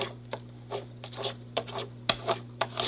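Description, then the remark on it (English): Crayon or pencil rubbing rapidly across paper laid over a leaf to make a leaf rubbing, a series of quick scratchy strokes, fairly quiet, with one sharper ripping rasp toward the end as the paper tears from being rubbed too hard, over a low steady hum. “I tore the paper because I rubbed it too hard.”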